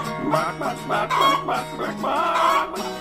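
Chickens cluck in a steady run of short, nasal bursts, several birds overlapping at close range with no pause for the full few seconds, fairly loud and with no voices.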